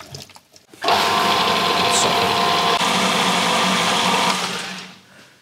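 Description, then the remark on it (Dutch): A blender starts up abruptly and whirs loudly and steadily for about four seconds, a dense, buzzing motor roar with a constant pitch, then winds down. No one speaks over it. “Blender? Yes, dat gaat goed.”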